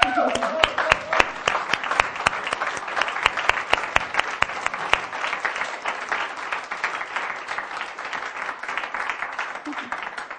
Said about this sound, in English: so I wanted to give them a round of applause.